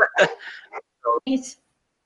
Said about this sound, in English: Sorry, my dogs are barking.